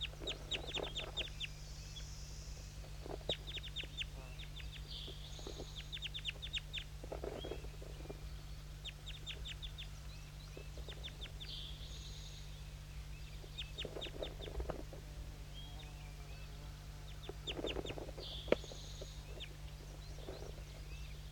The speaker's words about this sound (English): Stop. Start recording to start recording all the birds.